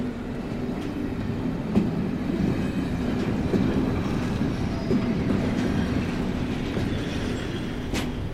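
A steady low rumble of trains in a railway station as it grows dark outside, with occasional sharp metallic clanks and a brief high squeal near the end, continuous and moderately loud with no voices.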